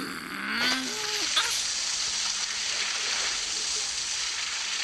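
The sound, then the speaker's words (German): A steady, loud hiss of water spraying hard onto asphalt from a street cleaner's rear-facing nozzles running continuously as it cleans the street, with a brief whine of machinery near the start. “Düsen nach hinten. Wasser.”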